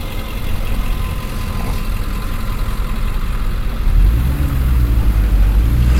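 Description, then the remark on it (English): A car engine idles steadily in a driveway, a continuous low rumble that grows slightly louder and heavier near the end, with no voices. “There's a car out in the driveway, so we'll give him the benefit of the doubt on that one.”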